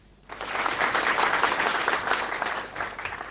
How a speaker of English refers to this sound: Bob, this is your applause.